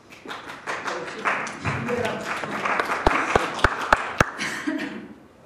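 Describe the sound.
An audience applauds in a loose, scattered way, with several sharp, distinct claps standing out near the end. Voices murmur underneath the clapping throughout.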